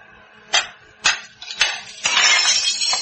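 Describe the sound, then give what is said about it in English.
A rock strikes a factory window pane a few sharp times against the glass, then a loud burst of shattering as the pane breaks and fragments rattle and tinkle down for about a second. “You're going to crawl through that hole in the window?”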